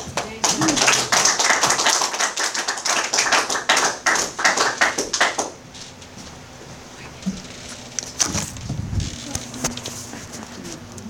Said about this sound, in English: Let's have a little round of applause for you.